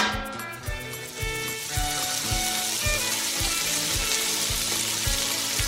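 Food sizzles and crackles in a hot frying pan, a steady bright hiss running throughout, layered with music carrying a regular thumping beat.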